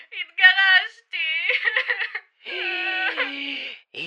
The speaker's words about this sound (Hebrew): אוי ווי, יש כאן מישהי בוכה. בטח מתרגשת. Excuse me, ma'am, are you? Why are you the בוכה?